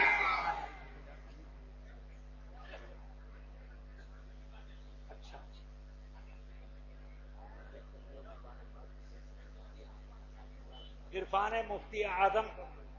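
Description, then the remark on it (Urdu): After a long stretch of low, steady hum with faint murmurs, a crowd bursts into loud chanted religious slogans (Naara-e-Takbeer, Naara-e-Risalat, Huzoor Taj-ush-Shariah), two or three rousing shouts in unison. “زوردار نعرہ لگائیے, زوردار. نعرے تکبیر, نعرے رسالت, حضور تاج الشریعہ, حضور محدث کبیر.”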